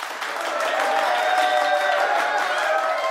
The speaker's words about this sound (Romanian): Cortina! Oh, aplauze furtunoase!